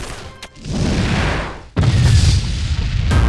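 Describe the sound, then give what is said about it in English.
A loud explosion sound effect: a heavy booming blast followed by a long rumble, then a second sharp blast with lingering debris-like roar, powerful, with no voices. “The explosion had distracted Sariz, but not Terragera.”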